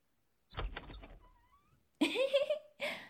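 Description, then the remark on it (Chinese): The latch of a room door clatters, then the door swings open with a thin, drawn-out creak and a scraping rush of movement, fairly loud, with no one speaking. “臭弟弟，怎么这么久才开门啊？”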